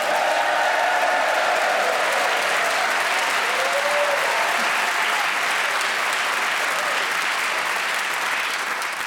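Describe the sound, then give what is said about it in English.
The studio audience of Just a Minute bursts into sustained, loud applause with whoops and cheers for the four players, Giles Brandreth, Jan Ravens, Tony Hawkes and Rachel Paris, rising above the clapping, a dense wall of crowd noise holding steady for several seconds. “So please whoop and cheer for all four of them.”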